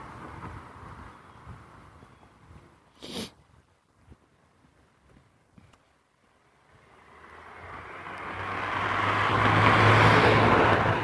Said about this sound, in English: Too much traffic.